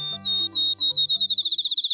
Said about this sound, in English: A sweetly whistled song speeds toward a melodious trill. It's still dark, an hour before dawn on this July morning in the Wisconsin countryside. A field sparrow announces the new day.